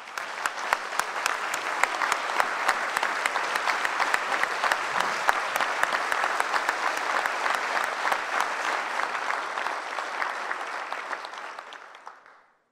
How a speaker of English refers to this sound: Please give Lauren a round of applause for her hard work and her commitment.